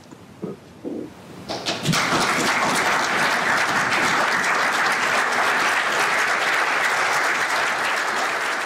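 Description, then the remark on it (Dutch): After a few brief sounds, sustained loud applause from a large group of Dutch parliament members, standing to applaud Zelensky after his speech, bursts in and continues steadily, a dense rush of many hands clapping. “Parlementariërs gaan staan en die klappen, die applaudisseren.”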